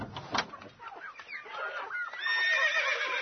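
A horse neighs in a stable where the horse Miško and the mare Margita are kept, a long quavering whinny that swells and grows louder in the second half, after a moment of rustling and shuffling.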